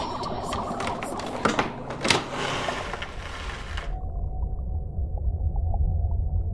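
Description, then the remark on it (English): A door creaks and groans open with a few sharp clicks and scrapes over about four seconds, then fades into a low, steady rumble. “I'm opening the door.”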